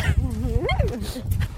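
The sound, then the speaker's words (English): Sled dogs running and pulling a dog sled whimper and yip, with a few rising and falling high-pitched whines over a steady low rumbling background. “We are podcasting from a dog sled, and there's a dog running and peeing.”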